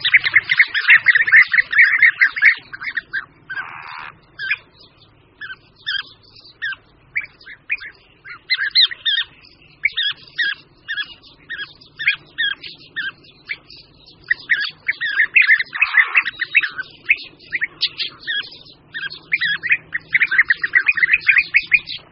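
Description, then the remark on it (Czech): A European bee-eater colony calls nonstop, many birds overlapping in rolling, liquid, mid-pitched trills and chirps that rise and fall in busy, loud bursts for the whole stretch, with no voices. “Vlhy hnízdí v zemních norách, které vyhrabávají společně samec i samice tak, že jeden z párů materiál narušuje prudkými údery zobáku a druhý pták jej rychlými pohyby nohou vyhrnuje ven.”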